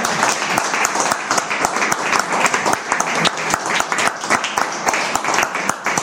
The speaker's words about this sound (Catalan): Primer un aplaudiment, no? Sí, home. Ah, va.